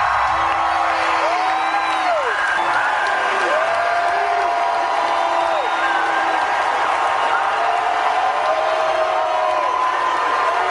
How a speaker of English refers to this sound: They put Bill and Hillary on the big screen, and the crowd just started booing them lustily.